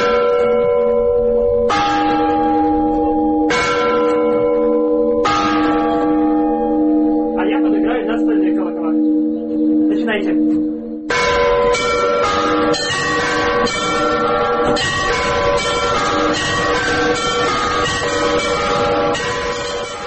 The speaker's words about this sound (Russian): Послушать колокольный звон собираются люди.